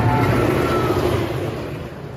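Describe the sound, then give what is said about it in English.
The RMC anti-rollbacks of Steel Vengeance, the world's first hyper-hybrid roller coaster, clatter loudly as trains are pulled up the lift hill, a dense, rapid mechanical rattling over a low rumbling drone that eases slightly toward the end. “I hear that familiar sound as RMC's ridiculously loud anti-rollbacks do their thing, as the trains are pulled to the top”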